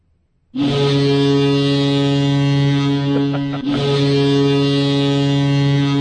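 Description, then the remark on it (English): A loud, deep stadium foghorn blast sounded on third down at an American football game starts abruptly and holds steady for several seconds, briefly dipping before sounding again, with a rich harmonic drone and no voices. “Finally, that GD foghorn on third down.”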